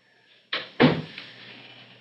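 A door swings shut with two quick knocks: a lighter latch click followed a quarter second later by a heavier thud, then a faint tail fading away. Moderately loud.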